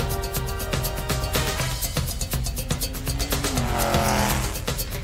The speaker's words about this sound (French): Est-ce que la moto c'est un indice?